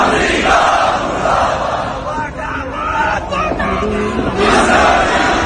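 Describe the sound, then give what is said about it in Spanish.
A large crowd of tens of thousands of mostly Shia protesters in India, mourning the death of the supreme leader, shouts in unison, chanting death to the United States and death to Israel, loud massed voices over a dense roar of babble, with rising and falling cries and a surge of shouting near the end. “Los manifestantes se golpeaban el pecho en señal de duelo y gritaban muerte a Estados Unidos y muerte a Israel.”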